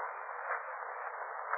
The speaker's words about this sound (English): rustling. Hissing sound. Coming from that corner. Come on, look. I see. Eyes staring at us. Full of marks. Is it a snake?